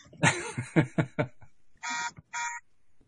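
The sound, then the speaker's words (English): A phone's text message alert sounds: a quick run of rhythmic pulsing tones followed by two bright, buzzy electronic beeps, loud and clear with nothing else going on. “That was, sorry, I forgot to put my phone on Do Not Disturb, so I'm getting text messages.”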